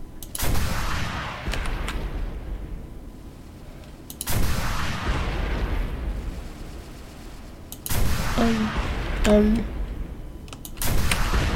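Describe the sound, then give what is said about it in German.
Video game gunfire: four heavy, booming shots spaced about four seconds apart, each loud with a long rumbling tail that fades slowly before the next blast. “Den knallen wir ab. Den haben wir getötet.”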